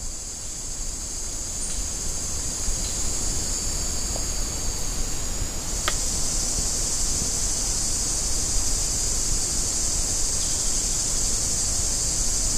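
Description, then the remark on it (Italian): A dense, continuous chorus of several kinds of cicadas, hidden high on tree trunks among beech and oak trees in hot weather, buzzing loudly and steadily with layered high-pitched drones, swelling slightly midway. No voices. “E se ne distinguono diversi tipi, riconoscibili dal tono leggermente più alto.”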